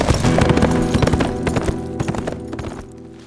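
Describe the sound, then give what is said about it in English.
A ridden horse's hooves clip-clop in a steady, even rhythm as it heads back toward St. Louis, clear, over a sustained tonal backdrop that fades slightly toward the end. No one speaks. “Too late to do anything except turn horse around and start again towards St. Louis with a bitter, sour taste filling his mouth.”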